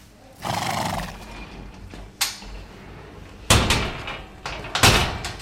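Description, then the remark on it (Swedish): A horse whinnies in a stable in Uppsala, followed by sharp knocks and a door banging, with hoof clatter and rustling; no one speaks. “vill veta ännu mer om hästarnas kognition och kommunikation. Katarina Sundberg hade träffat henne i ett stall i Uppsala”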